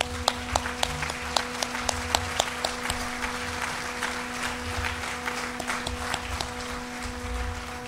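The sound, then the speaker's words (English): An audience applauds steadily for several seconds, another round of applause for the volunteers helping with BizBash and its sponsors, a dense wash of many hands clapping with a few sharper claps standing out, over a low electrical hum. “all the volunteers who are helping with BizBash, as well as our sponsors, CareerBuilder, Google, Goose Island Brewery, and the Search Engine Strategies Conference, to stand up for another round of applause, if you all could.”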